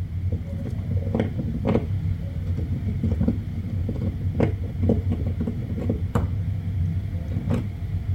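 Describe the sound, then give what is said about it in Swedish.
Irregular scratching, knocking and shuffling from a rat moving things about inside the ceiling of a son's bedroom, recorded on a Saturday evening by holding a microphone up to the ceiling, in short scattered bursts over a steady low rumble. No voices. “Höll upp mikrofonen då mot taket och då lät det så här.”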